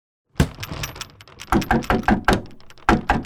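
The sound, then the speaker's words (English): Heavy fists pound on a locked door: one loud thud, a short pause, then a rapid volley of about eight forceful bangs in uneven rhythm. “Unlock the damn door.”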